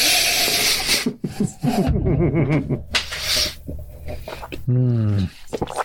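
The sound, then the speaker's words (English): Several short, breathy sniffs, someone smelling a glass of whiskey, come in quick bursts of airy hiss, broken up by bits of voiced sound from people in the room. “I'm sniffing it first.”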